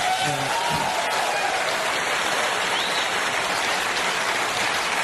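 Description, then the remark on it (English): Sustained applause from a large audience, a dense, steady wash of clapping that holds at an even loudness for several seconds, with a faint murmur of voices underneath at the start. “Listen to the clap after that particular comment.”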